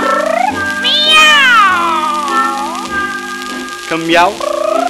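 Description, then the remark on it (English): Two cats meow in a drawn-out, overlapping duet, their loud wavering calls sliding up and down in pitch for several seconds with hardly a pause. “But he swears it sounded like two cats. Yeah? Singing a duet.”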